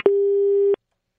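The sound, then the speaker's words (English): A single steady electronic telephone tone as a phone call disconnects, holding at one pitch for under a second, starting and stopping with sharp clicks, then silence follows. No voices are present. “We lost him real quick.”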